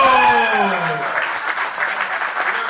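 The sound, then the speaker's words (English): An audience breaks into steady, dense applause for the speaker's sister as she comes up to speak, opening with a falling vocal whoop or cheer before the clapping settles into a continuous roar of many hands. “Clap it up for my sister.”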